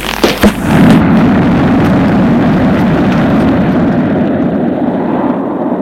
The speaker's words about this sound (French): un vent terrible, une tornade l'entoure, elle éjecte, le pousse, c'est un souffle immense. Qui soulève tout sur son passage.